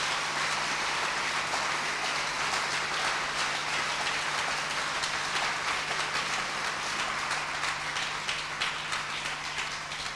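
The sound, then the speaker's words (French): A crowd applauds for the law of Moses, steadily for about ten seconds, a dense, even wash of many hands clapping at once with no voices heard, holding at a constant level throughout alongside a faint low hum. “Clap for the law of Moses.”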